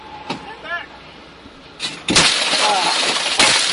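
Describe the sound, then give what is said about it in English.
A sudden, loud crash of breaking glass bursts in partway through as a truck window is smashed during a border enforcement stop in the United States, followed by a sustained crunching, tinkling spray with another sharp impact near the end; faint voices are audible beforehand. “Window smashed, and now they're reaching in, and a bunch of agents grab him and drag him out of the vehicle.”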